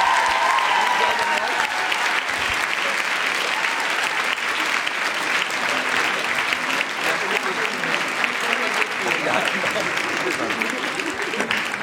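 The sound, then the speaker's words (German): A large concert audience in Cologne claps steadily and loudly for about twelve seconds, a dense unbroken wash of applause with shouts and cheers mixed in, never fading. “Ein Applaus an euch selber, es war schön mit euch, Köln.”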